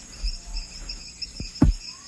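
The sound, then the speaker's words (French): A steady, shrill chorus of insects trills in the distance at dusk around a village clearing in the western Amazon, with a couple of low, brief frog croaks popping up near the end. No one speaks. “Et là on commence à entendre des insectes, des grenouilles, des je ne sais quoi, qui font des bruits au loin.”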